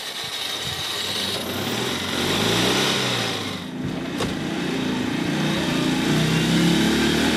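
A Citroën 2CV (Deux Chevaux) engine drones loudly, recorded aboard the car during a drive in 2018. Its buzzy pitch rises and falls as it revs through gear changes, with a steady rumble throughout and no voices.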